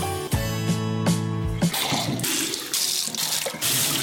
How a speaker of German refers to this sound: Stellen Sie sich vor, Sie öffnen den Wasserhahn und lassen ihn einfach laufen. Und laufen und laufen.